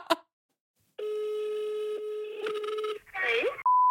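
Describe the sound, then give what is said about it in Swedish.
A short click, then a steady electronic telephone tone holds for a couple of seconds as a phone call is dialed, followed by a brief burbling burst and a clear pure beep at the end, fairly loud. “Nej, jag ringer ett annat ställe. Samma ställe.”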